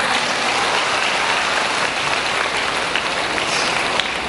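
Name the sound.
audience applause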